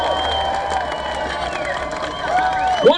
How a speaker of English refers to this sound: And we owe the growers a big round of applause for keeping the genetics and the strains alive. So let's give a great big round of applause to all the plant growers all over the world!